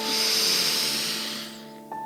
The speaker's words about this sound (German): Wir atmen ein. Und wir atmen aus. Lass uns einatmen. Und wir atmen aus. Nochmal ein.